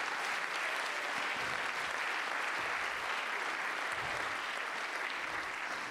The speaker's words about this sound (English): Let's clap our hands unto God and bless His name.